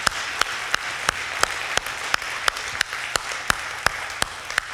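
An audience applauds God for the 808 people who gave a total of $872,027.12 in 2014, a dense wash of clapping with sharper, louder claps popping out at a regular, almost rhythmic pace throughout. No one speaks.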